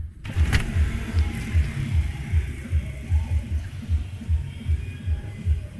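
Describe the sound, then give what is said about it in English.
Motorbike traffic drones outside an open window on a 27-degree morning, a continuous low engine rumble that pulses and swells steadily throughout, with a brief sharp click near the start and no voices. “It just sounds a bit more motorbikey.”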